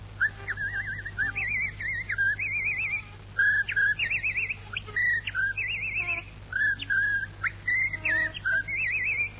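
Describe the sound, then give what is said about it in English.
Someone whistles a lively tune, warbling quickly between high and mid notes in short phrases with brief breaths between them, over a low steady hum. “You know, people will fall asleep if you whistle that way.”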